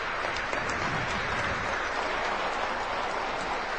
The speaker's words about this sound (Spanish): en el que se ha reunido una gran cantidad de personas en el Paraninfo Enrique Díaz de León, y donde en este momento le brindan un caluroso aplauso en el marco de la cátedra Julio Cortázar.